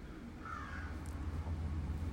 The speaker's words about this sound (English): I'm trying to find my crows because I forgot to play the crows for you. I think this is them.